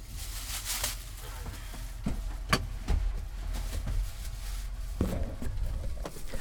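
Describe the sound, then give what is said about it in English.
A truck engine idles with a steady, low rumble throughout, while sharp clicks and soft thumps break in at irregular moments over the drone. “All right, oh, maybe I should turn the truck off just in case.”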